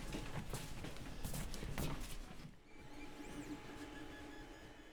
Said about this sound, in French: Donc pour la présentation des différentes machines, vous avez du coup derrière les imprimantes 3D. En gros, on est en train de faire des Saint-Denis de différentes tailles et de différentes couleurs qui sont vendues à la boutique.